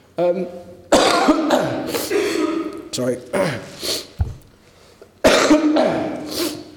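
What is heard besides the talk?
two coughs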